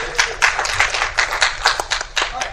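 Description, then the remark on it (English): A short burst of audience applause on a show, welcoming a contestant, many hands clapping in a steady, irregular patter at moderate loudness, with no one talking over it. “Round of applause.”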